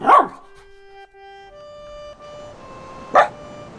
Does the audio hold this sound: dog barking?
yes